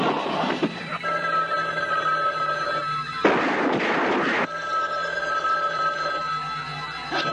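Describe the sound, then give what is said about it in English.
A telephone rings twice in the trailer for the film Don't Answer the Phone, each ring a steady, buzzy electronic tone lasting about two seconds, separated by a brief harsh burst of noise. No one speaks. “Don't answer the phone.”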